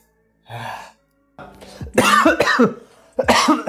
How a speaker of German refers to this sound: Erstmal voll ins Gesicht gehustet.